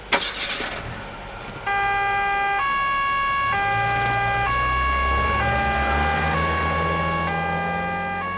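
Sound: police car sirens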